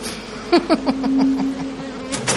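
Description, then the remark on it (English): A steady, droning buzz like a swarm of bees hums through the room, preceded by a few quick metallic clicks, then briefly swells near the end. “The buzzing grew louder, filling the room with a reverberating hum.”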